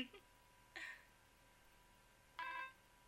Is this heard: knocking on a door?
no